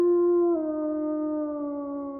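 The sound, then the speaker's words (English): A single long, loud wolf howl as a scream turns into a howl during a transformation into a wolf, holding a steady tone that drops slightly partway through and sustains for about two seconds with no other sounds. “after you've screamed and it starts to turn into that howl, everything snaps.”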